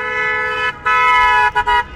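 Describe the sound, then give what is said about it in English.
A loud, car-like horn blares from a bicycle: one long sustained honk, then a series of shorter beeps in quick succession, forceful with no talking. “And that wasn't a car that just drove by beeping a horn. That was Jonathan Lanzi with his loud bike horn.”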